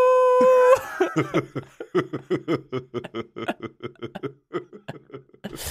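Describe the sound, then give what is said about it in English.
A person lets out a short, steady howl, as if howling at the moon, lasting under a second, then dissolves into a long run of rhythmic, breathy laughter in quick bursts, fairly loud. “Do you think we could introduce howling at the moon?”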